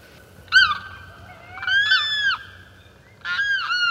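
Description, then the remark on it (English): Limpkin cries from the larger southern swamplands: three loud, wailing calls with a harsh, ringing tone, each rising and then dropping. They stand alone over a faint low rumble, with short gaps between them. “Most fascinating of all the sounds that come from the larger southern swamplands are the weird cries of the limpkins.”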